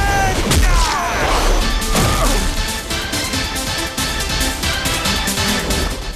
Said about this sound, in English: The combatants get to their feet, and Liu Kang lands a combination of punches and kicks on Shao Kahn. He delivers a flying kick to Shao Kahn.